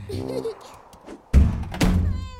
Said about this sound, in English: No, it's coconuts being blown from the tree and landing on our roof.